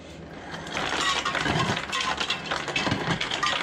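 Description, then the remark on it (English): A refrigerator dispenser whirs into motion and ice cubes rattle and clatter out in an uneven stream, a steady mechanical hum running under the clinking for several seconds, while the refrigerator compressor is running at about 400 watts. “You can see that the refrigerator is turned on if I wanted to get ice.”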